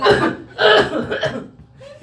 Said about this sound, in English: So I just, you know, I end up like turning towards him and I start coughing really loud at the back of his head, right?